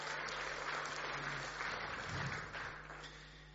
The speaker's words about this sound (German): Aber zuallererst, wenn einer klatscht, klatschen alle, oder?